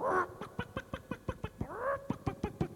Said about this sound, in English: outside in the farmyard, here comes Toby the dog. Oh, why, he's chasing the chickens. Get off, stop chasing those chickens, Toby.